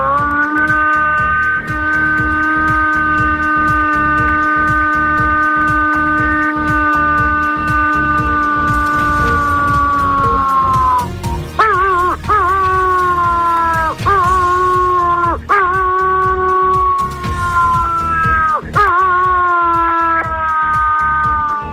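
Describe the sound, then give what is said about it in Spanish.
A person imitates a wolf, making the kind of call used to call wolves: one long, loud, steady howl for about ten seconds, then a string of short swooping howls, with no talking. “Sí que nos haces una llamada de esas que hacías a los lobos, te lo pido por favor, haznos una llamadita de esas que tú llamas a los lobos. Ahora te voy a hacer el aullido.”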